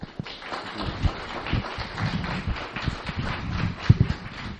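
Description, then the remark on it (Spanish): An audience applauds steadily for several seconds to welcome the Mexican poet and writer José Emilio Pacheco, a dense crackle of many hands clapping at an even, moderate loudness with a few sharper claps standing out and no voices. “Yo los invito a saludar con un fuerte y cariñoso aplauso la presencia de este destacado poeta y escritor mexicano, José Emilio Pacheco.”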